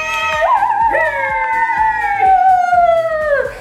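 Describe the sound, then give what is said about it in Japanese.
A single long howl like a dog's, apparently voiced by a person, swoops up in pitch and then slowly slides downward for over three seconds, loud over a soft rhythmic backing. “はい、ひとしきり吠えたところで。”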